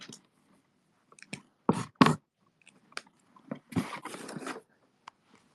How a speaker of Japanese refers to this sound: アマゾンの段ボールにすんごいやわやわに貼り付いていたテープっていうのを移植しましょう。で、一回無理やり閉じます。